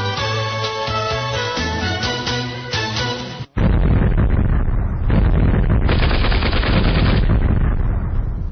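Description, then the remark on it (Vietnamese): A few seconds of tonal music cut off abruptly, then a dense, sustained barrage of distant heavy gunfire and explosions rumbles on in rapid, overlapping succession until the end, with no talking. “Nổ liên tiếp nhau từ phía xa xa vẳng lại như những tiếng trời gầm khi sắp chuyển cơn mưa.”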